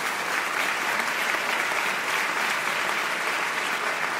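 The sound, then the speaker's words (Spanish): A crowd applauds steadily, a dense wash of many hands clapping at an even, fairly loud level throughout, with no voices rising above it. “No aplaudáis todavía, que no os estoy dando una excusa para ponerle los cuernos a nadie.”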